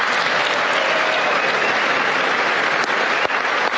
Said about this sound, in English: Everybody's applauding for her. She's standing right next to Melania Trump. And this goes on for a while.